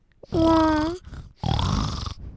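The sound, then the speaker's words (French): A pig's grunting in two loud bursts: first a drawn-out, tonal squealing grunt, then after a short pause a rougher, raspy snort-like grunt. No talking. “Arrive le cochon.”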